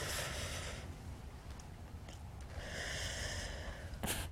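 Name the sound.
deep breathing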